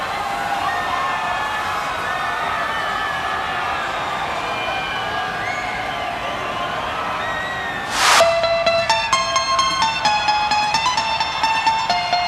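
A big crowd at a rave party roars and shouts in a steady, loud wash of cheering for about eight seconds, showing they want to ride in boats for white raver rafting, then a sudden whoosh cuts in and bright, pulsing electronic music takes over.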